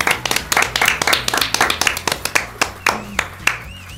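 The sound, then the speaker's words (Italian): An audience claps together after finishing an invented pirate story, in a dense, steady burst of sharp, bright hand claps that runs for about four seconds, with faint tonal sounds underneath and no talking. “E allora ce l'abbiamo fatta, meritate un applauso.”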